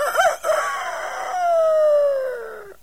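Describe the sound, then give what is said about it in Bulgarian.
A rooster crows once, a loud, strained call that starts with a few choppy notes and stretches into a long, wavering tone that slowly falls in pitch before cutting off. “Плясва с криле, запява.”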